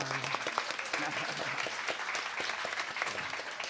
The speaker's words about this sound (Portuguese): A salva de palmas. Olha! Palmas.